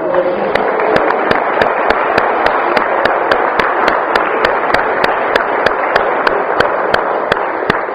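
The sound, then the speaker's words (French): A crowd applauds two newcomers steadily for several seconds, a dense wash of clapping with sharp, evenly spaced claps cutting through at a regular beat. “Ils ont bien accompagné, alors on pourra peut-être applaudir les deux nouveaux qui sont dans le photo.”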